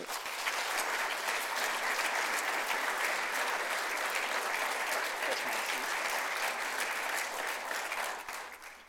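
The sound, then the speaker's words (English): Sustained audience applause for students, a dense steady patter of many hands clapping at a consistent loudness for several seconds before tapering off at the end. No one speaks over it. “Well, let's give these students a round of applause.”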